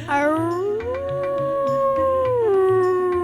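A wolf, Haroun, lets out one long, loud howl that rises, holds a wavering tone, then slides downward, heard from afar over a soft, steady low pulsing underneath.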